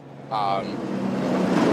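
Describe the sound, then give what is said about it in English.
A heavy truck rumbles past in Curtis Bay, an industrial area by the harbor in Baltimore, Maryland, its engine roar rising abruptly and holding steady, with a brief high whine near the start. “The sound of a truck is Curtis Bay.”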